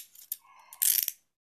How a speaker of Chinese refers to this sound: 等着我去把你锁好。嗯，反手给你把手铐锁好